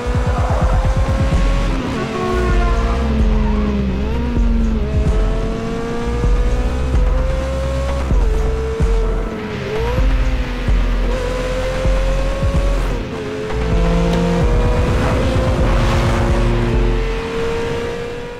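A brand-new Ferrari sports car is driven as fast as it goes down an airfield, its engine roaring and revving steadily with rising and falling gear shifts and a strong, continuous whine; no voices are heard.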